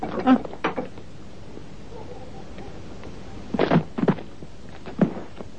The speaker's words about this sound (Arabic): ماذا حدث؟ لما تكسرون الباب يا صاحب الفخامة؟